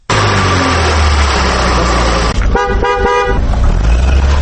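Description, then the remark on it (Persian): Busy city street traffic on Ayan road in Dushanbe, Tajikistan, where about 50,000 cars of various kinds travel day and night, rumbles steadily, with engines droning, then a car horn sounds in several quick honks partway through, cutting above the loud, continuous road noise. No one speaks. “در جاده آیان حدود 50,000 نب های مختلف افتامبیل ها شب و روز حرکت می کنند.”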